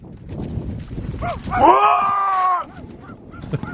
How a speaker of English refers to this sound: That is the shouting sound of man in flight from muskox.